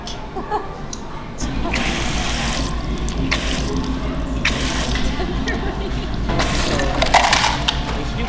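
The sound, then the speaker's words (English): Soda pours and fizzes in a steady, hissing stream for several seconds, with brief louder surges of bubbling, fairly loud against a busy low background rumble. “Oh, it's all boiling sodas.”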